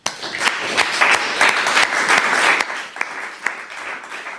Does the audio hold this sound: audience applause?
yes